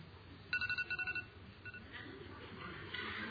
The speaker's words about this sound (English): it is my phone.